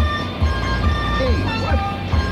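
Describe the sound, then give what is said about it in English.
A car drives along with a steady, low engine rumble that pulses gently, a faint tonal hum above it and a brief muffled voice in the background. “But finding a piece of machinery that could be anywhere between Washington and Florida is a nearly impossible job, even for this bionic man who drives his car now in the direction of his home.”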